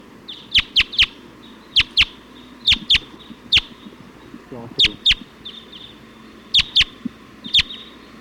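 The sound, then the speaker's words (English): A flock of about 20 Type 2 wild birds, just arrived and perched at the top of a pine tree, calls in sharp, high, clipped chirps, about fifteen of them in irregular bursts and pairs, with a low voice briefly murmuring underneath midway. “Flock of about 20. Type 2 birds just came in, pointing here at 279.”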